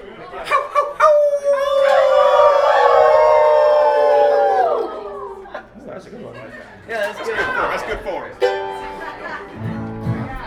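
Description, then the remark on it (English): An audience at a band's show, led by a special guest, howls together like wolves, a loud sustained chorus that rises and slides downward for a few seconds before breaking into scattered laughter, chatter and a few more short howls. “it's customary if you're gonna be a special guest with the …, you gotta lead the audience in a group howl.”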